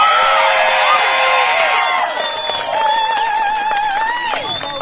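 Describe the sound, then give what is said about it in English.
A large crowd cheers loudly in a round of applause for the activists who came before them, with many high voices whooping and shouting over scattered clapping, staying strong throughout before easing slightly toward the end. “You've already been doing such a good job of cheering, but can we get a round of applause for the activists who came before us?”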